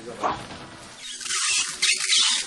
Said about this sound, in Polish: Zakręciliśmy wodę, żeby nie kapała nam. Tak jest, ale boiler hałasuje, czyli woda się grzeje, żeby nie tylko była woda, ale też ciepła woda.